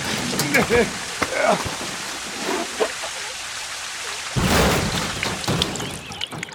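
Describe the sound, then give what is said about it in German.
Water gushes and sprays up in a fountain in a steady hissing rush from a broken water pipe, surging louder in a sudden burst near the end, while voices talk over it at the start. “Eine Wasserfontäne. Du hast dein Rohr kaputt gemacht.”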